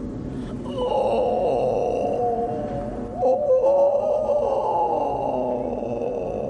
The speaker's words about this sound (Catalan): Fa una nit fosca com un forat negre i s'aixeca un vent molt fred. En Tom sent unes esgarrifes per tota l'esquena i de cop i volta escolta una horrible lamentació.